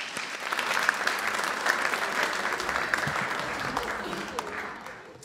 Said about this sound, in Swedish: En applåd för dem också. Sen får ni sätta er.